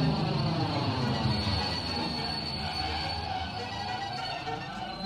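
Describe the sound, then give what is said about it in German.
A train rolls steadily along the rails in Dortmund, Germany, a continuous loud rumble with rhythmic wheel noise and a faint high metallic squeal, heard from on board with no voices. “Dort können Sie richtig tolle Züge sehen. Da macht es auch Spaß mitzufahren.”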